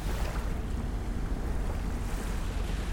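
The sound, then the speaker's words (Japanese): A steady, rumbling wash of ocean surf fills the scene, dense low-end roar with wind buffeting the microphone, continuous and fairly close, with no distinct individual wave breaks and no voices. “こんなに近くで海見るのすごい久しぶりな気がする。”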